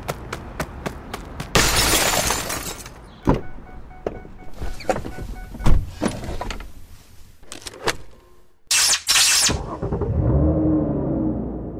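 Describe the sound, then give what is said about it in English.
An expensive car is stolen: a rapid run of sharp clacks and thuds, a loud burst of shattering glass, door slams and a whirring power window, then the car's engine rumbles to life at the end. No one speaks. “Okay, you're stealing an expensive car that's definitely not yours.”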